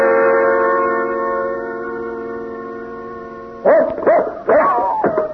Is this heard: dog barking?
yes